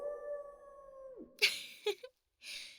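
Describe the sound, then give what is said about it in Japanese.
A single long wolf howl, a 'full moon howl' spell card of a wolf yokai character on a moonlit night in a bamboo forest, holds a steady pitch for about a second before sliding down, followed by a few short, noisy bursts and a final hiss. “方向、満月の遠吠え。”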